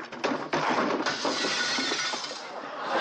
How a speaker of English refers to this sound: What was that then? Boy, it sounded like glass breaking.